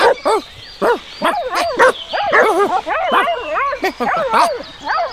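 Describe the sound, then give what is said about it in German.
A pack of hunting dogs from a hunting party barks and yips excitedly in rapid, overlapping, loud bursts, with some higher whimpering yelps mixed in throughout. “aber die Hunde riechen doch, wie der Hase, respektive das Dammtier läuft. Ja, im Moment interessieren sie sich aber eher für uns.”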